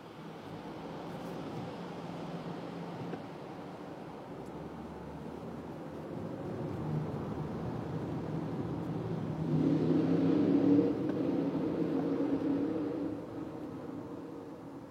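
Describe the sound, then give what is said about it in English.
Steady road rumble from inside a moving car driving through a tunnel, a dense low roar of tires and engine that swells louder for a few seconds near the end before settling back. No one speaks. “Why is this guy in the tunnel putting on his blinker?”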